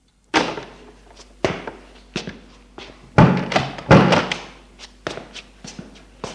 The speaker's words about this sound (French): L'on frappe à la porte.